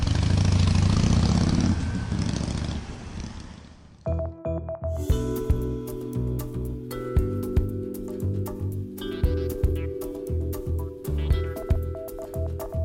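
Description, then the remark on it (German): A motorcycle engine idles with a steady, throbbing rumble, punctuated by several sharp revs, after a few seconds of loud rushing noise at the start. No one speaks. “Ja, wenn ich aus dem Büro komme, dann dusche ich kurz, setze mich auf das Moped. Und dann fahre ich ein bisschen durchs Bergische und habe ich so 120, 130 Kilometer gemacht und dann fahre ich nach Hause und dann bin ich glücklich.”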